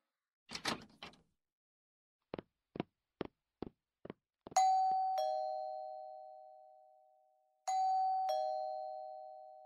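A brief rustling burst, then five evenly spaced knocks, followed by a doorbell rung twice, each a bright, clear chime that rings out and slowly fades. No one speaks.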